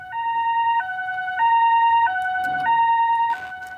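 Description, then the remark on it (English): A loud two-tone emergency vehicle siren alternates between a high and a low pitch about every second, with a faint rumble underneath and no voices. “That was the podcast you're listening to, not the road outside because you're listening to this in the car.”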